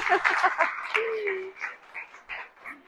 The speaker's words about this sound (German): Ein Applaus für die Küche.